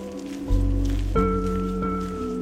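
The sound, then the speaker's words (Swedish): Gusty wind in Skanör Falsterbo, Sweden, buffets the microphone of someone walking outdoors in deep, rumbling bursts, with a steady tonal hum running underneath and a faint rustle throughout. “på väg genom ett blåsigt Skanör Falsterbo.”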